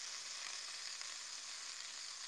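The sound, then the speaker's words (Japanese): A gas stove burner after lighting, giving a steady, even hiss of flame that holds at a constant, fairly quiet level throughout, with no voices. “チチチチチチチコンロ点火。”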